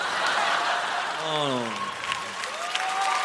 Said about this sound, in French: Vous applaudissez ça, c'est moche.